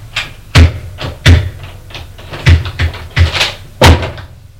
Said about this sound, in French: La porte est ouverte.